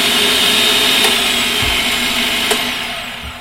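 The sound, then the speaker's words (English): A food processor chopping onion pieces and garlic whirs steadily with a loud, high-pitched motor hum, with a couple of faint clicks from the chopping and a slight drop in level toward the end. No one speaks. “Just pop those in the food processor, along with some garlic. And then just whiz that up.”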